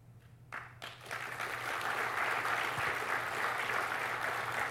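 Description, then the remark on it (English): An audience bursts into applause, starting with a few scattered claps and quickly swelling into steady, dense clapping that holds at an even level to the end, with no voices over it. “I know you're just clapping now because I'm trying to get you to”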